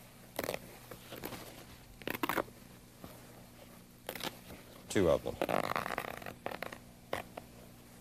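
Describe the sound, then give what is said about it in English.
Dry tearing of paper towels being torn off to use as a napkin and a placemat: several quick rips and rustles, with a longer, louder tear partway through. A voice briefly speaks in between. “Now there's something with these paper towels that I want to show you.”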